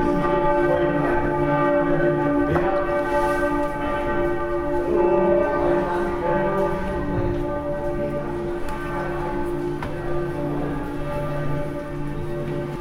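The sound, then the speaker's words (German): The large peace bell of the rebuilt Frauenkirche rings steadily for a peace prayer service, its deep sustained tones overlapping and humming continuously throughout, with faint outdoor ambience and no talking. “Jetzt läutet die Friedensglocke zur Friedensandacht in der wiedererrichteten Frauenkirche.”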